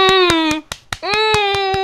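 Brisk, evenly spaced hand claps, about a dozen sharp slaps in quick rhythm, with a sustained voiced cheer or hum over them that briefly drops out midway.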